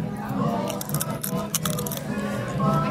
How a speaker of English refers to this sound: You got to hear the crunch in this chip, right?